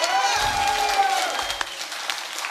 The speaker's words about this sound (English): Can we get an applause from the audience for the video?